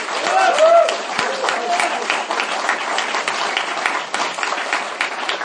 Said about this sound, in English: Can we give these guys a round of applause, please?